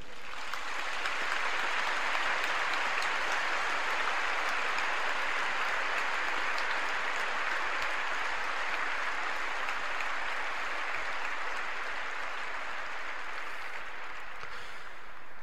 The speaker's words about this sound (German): Ja, das freudige Klatschen hat euch gezeigt, dass sich alle Brüder und Schwestern hier sehr mit euch freuen, dass ihr euch Jehova hingegeben habt und dass ihr nun heute eine öffentliche Erklärung eures Glaubens abgeben und euch taufen lassen möchtet.